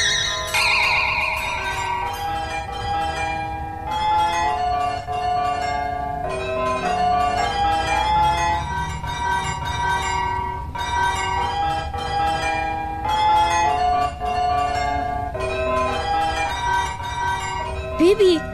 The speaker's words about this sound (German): Siehst du, da stehen immer viele Touristen davor. Ist ganz hübsch. Aber wie wär's mit einer anderen Melodie? Zum Beispiel mit Hänschen klein. Ene mene miel, spiel Hänschen klein jetzt Glockenspiel. Hex, hex.